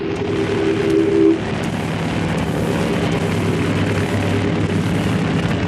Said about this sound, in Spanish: Luego, sus recias y musculosas manos accionan los botones de encendido de los 2 motores de la avioneta.